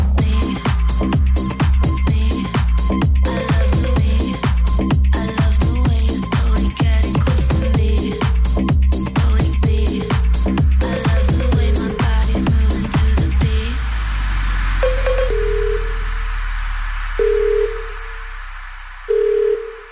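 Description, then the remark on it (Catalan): An upbeat talk-show theme tune with a steady, punchy beat plays loudly with no talking, then gives way to a few sustained electronic beeps that close it out. “Bé, la noia que balla la sintonia d'aquest espai, de la tertúlia, s'ha deixat els malucs, eh?”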